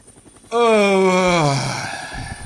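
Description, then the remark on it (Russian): A man in a descending helicopter gives one drawn-out, voiced yawn that slides downward in pitch for about a second, fairly loud, trailing off into a soft breathy exhale over a low background rumble. “Он зевнул, снял наушники с микрофоном.”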